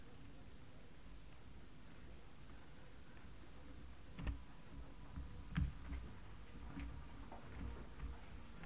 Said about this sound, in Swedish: Vi ska bläddra vidare till Matteus 5.